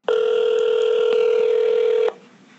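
A telephone ringback tone as a call is placed to ask about Colorado water law: one steady, mid-pitched electronic purr that holds evenly for about two seconds and then cuts off abruptly, with no voices.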